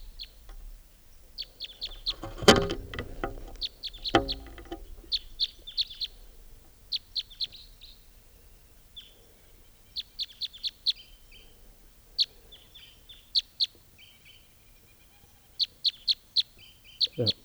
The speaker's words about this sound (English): Type 3 bird here.